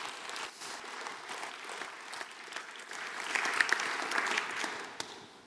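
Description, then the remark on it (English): A church audience applauds its family volunteers, who are standing: a dense wash of many hands clapping that holds even throughout and swells slightly louder toward the end before tapering off. “Can we just give them a wonderful applause?”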